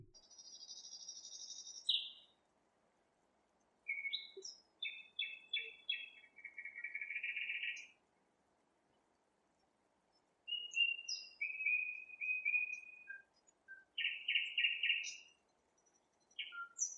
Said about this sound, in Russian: И что-то блаженное было в тишине ночи после дождя и старательном выщелкивании соловьев.